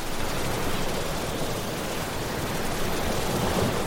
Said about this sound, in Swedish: Jag har lyckats då pricka in rätt hertz här nu. Det finns ju olika white noise i olika hertz. Och min tinnitus maskeras som bäst när det är 6-7000 hertz.